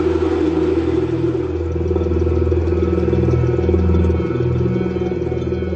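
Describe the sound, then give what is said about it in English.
A vacuum pump, attached by a hose to a small chamber holding a beaker of water, pulls the air out to drop the pressure to Martian levels. It runs with a steady, loud mechanical drone, a deep humming rumble with a faint rattling edge and slight wavering in pitch, continuous throughout with no talking. “And attach a vacuum hose to the chamber and pull the air out of the chamber.”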